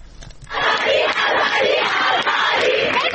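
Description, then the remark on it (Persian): Students shout protest chants against the Islamic Republic at the University of Tehran dormitory on a Wednesday night, marking 40 days since Mahsa Amini's death: a loud, sustained roar of many voices that starts abruptly after a brief quiet moment and keeps going at a steady, rhythmic intensity. “فریاد اعتراض دانشجویان در ده‌ها دانشگاه ایران روز چهارشنبه به مناسبت 40 مهسا امینی، زن 22 ساله اهل سقز که در بازداشت گشت ارشاد جان باخت.”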